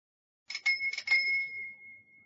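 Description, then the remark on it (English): A quiet bell on a red bicycle rings twice in quick double dings, its bright metallic tone lingering and slowly fading afterward, with no voices present. “I'm sorry, I can't hear your bell. It's too quiet.”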